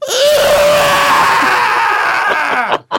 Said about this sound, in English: Then the head turned and stared at the boy. It slowly opened its mouth and screamed.